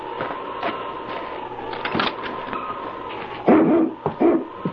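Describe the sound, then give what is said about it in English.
King, a husky dog, whimpers in a thin, sustained whine at a cabin, then lets out a couple of louder, rough barks near the end, with no talking. “Ho, King! Ho, you Huskies!”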